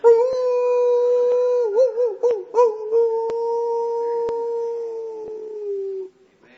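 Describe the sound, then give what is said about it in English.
A wolf gives one long, steady howl that wavers briefly partway through, then holds and slowly sinks in pitch before cutting off, as the wolf pack calls to each other after a storm. A few faint clicks sound in the background. “The wolf pack was separate. The big bull from the cow elk. But after the storm passed over, they started calling each other.”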